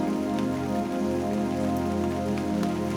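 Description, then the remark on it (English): Steady rain patters on a hard surface, a dense, continuous wash of droplets with no pauses, even in loudness, with no voices. “Listen to the sound of the rain.”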